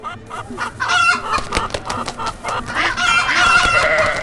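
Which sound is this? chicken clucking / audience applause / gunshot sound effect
chicken clucking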